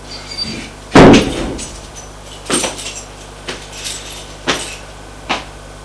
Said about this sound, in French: Elle va ouvrir la porte avec sa clé et entre.